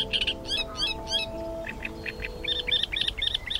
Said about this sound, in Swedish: Spången går från ekkullen över sumpmarken rätt ut i Vasshavet där trastsångaren tjattrar och bor.